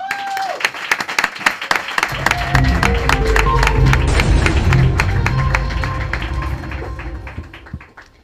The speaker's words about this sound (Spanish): Bueno, todo esto que me cuentas es muy apasionante, pero antes de que la luna llegue a su esplendor, vamos a recibir con un aplauso de los que se desprenden las uñas de gel